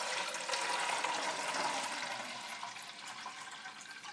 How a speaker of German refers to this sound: Und dann kommt jetzt noch ein Liter Wasser dazu. Ich habe da schon mal was vorbereitet.